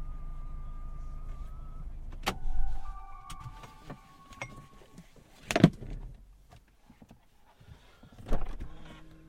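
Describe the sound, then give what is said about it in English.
A car door clicks open with sharp latch thuds, followed by the steady whir of an electric motor as a powered seat automatically slides back when the door is opened, in a quiet cabin. “Seat moves back when you open the door. Seat moves back automatically.”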